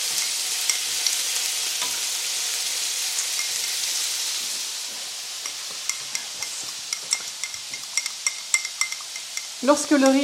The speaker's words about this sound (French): Lorsque le poulet est ajouté, on ajoute un peu de sel et de poivre, comme toujours. Donc là, tu as ajouté le poulet dans la poêle, donc avec les oignons.